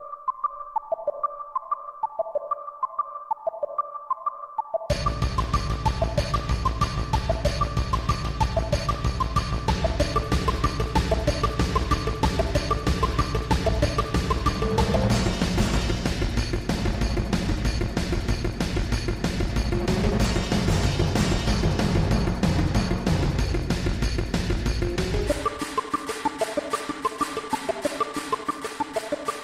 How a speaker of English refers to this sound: that is the Motorcycle Getaway song from the original Final Fantasy VII